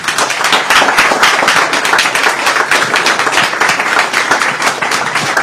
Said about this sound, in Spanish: Entonces yo os pido, que os lo estoy diciendo emocionada, con lágrimas en los ojos, un aplauso muy grande para estas mujeres.